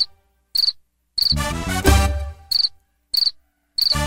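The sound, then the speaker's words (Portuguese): A cricket chirps in short, buzzy pulsed bursts about every half second, crisp, with a louder, warbling tonal sound swelling briefly in the middle. “Fizeram as posições e esqueceram do bichinho, porque ele é pequeno e só vive paradinho. E de vez em quando ele dá um gritinho.”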